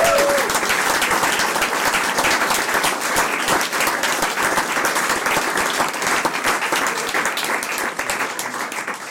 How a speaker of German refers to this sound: Applaus,